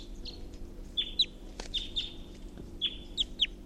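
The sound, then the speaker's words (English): A wild bird perched in a tall pine above a net gives repeated short, high chirping calls, several in quick pairs, over a low steady background hum, with no one talking. “And there's a wild bird here, just perched in a tall pine above the net, pointed at 348.”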